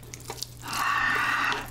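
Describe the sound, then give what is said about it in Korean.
A few small drips and clinks, then a steady splashing pour of noodle cooking water into Buldak stir-fried noodles lasting about a second before it trails off, with no one speaking. “면수를 조금 넣고 제가 좀 촉촉하게 먹도록 하겠습니다.”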